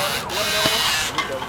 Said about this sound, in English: That is a drill you hear, taking the through axles out.